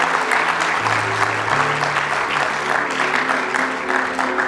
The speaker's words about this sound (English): Give him one more good hand clap of praise this morning.